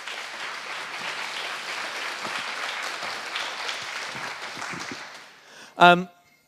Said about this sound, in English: Thank you very much. A big round of applause for our volunteer. Thank you.